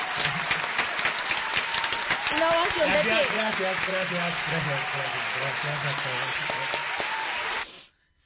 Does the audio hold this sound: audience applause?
yes